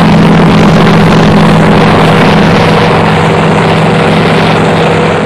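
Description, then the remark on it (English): A Marine H-34 military helicopter's engine and rotor roar loudly and steadily as it comes in to land amid Viet Cong gunfire, a dense droning hum that holds for several seconds with no voices over it. “Looks like the H-34, the Marine H-34 is coming in.”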